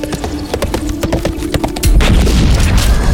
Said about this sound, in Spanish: Mi pistola pide permiso para terminar con este imbécil. Disparo.